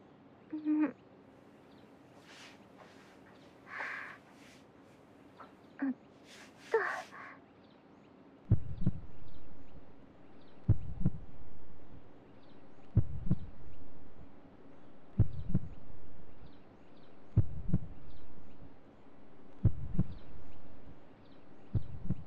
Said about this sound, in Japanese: 聞こえてますか？私の心音。